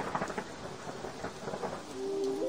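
A thunderstorm with steady, dense rain hissing down and thunder rumbling low underneath, continuous and fairly loud throughout, with no voices present.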